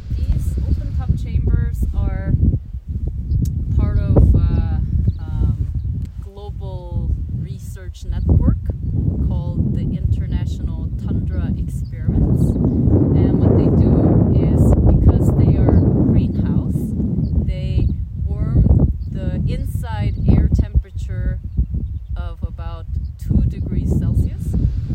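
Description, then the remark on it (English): Strong wind buffets the microphone in a steady, heavy low rumble that runs throughout, nearly swamping a person talking outdoors. “Unfortunately, it was really windy when I recorded this little piece of tape, so you'll have to listen carefully.”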